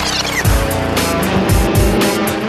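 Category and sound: vehicle, car engine running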